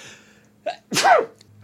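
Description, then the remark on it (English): A small, quick sneeze followed moments later by a louder, fuller one, with near silence around them and no talking. “Those were such cute sneezes.”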